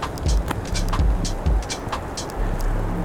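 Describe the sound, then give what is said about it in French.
Cold north wind at 3 degrees rumbles and buffets steadily in low gusts, with rain and sharp irregular taps spattering through the constant roar. No voices are heard. “3 degrés, la pluie dans le visage, tout ça pour vos oreilles.”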